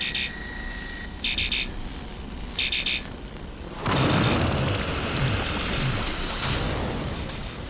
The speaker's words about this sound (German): Als sie beide darin verschwunden waren, zischte es, als würde aus dem Ding jemand die Luft rauslassen und der Donut verschwand so schnell, wie er gekommen war.